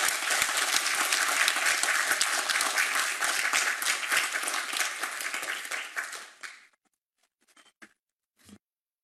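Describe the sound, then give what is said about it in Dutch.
A crowd breaks into loud, sustained applause for the children's mayor, dense overlapping claps for about six seconds, then it fades out abruptly, leaving a few scattered stray claps. “Jongens, luid applaus voor onze kinderburgemeester.”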